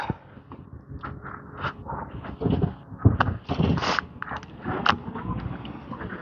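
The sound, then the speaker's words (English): A garbage truck works on a warm, sunny day, its low engine rumble running under a series of metallic clanks, scrapes and bangs at an uneven pace, moderately loud and without talking. “Trash truck.”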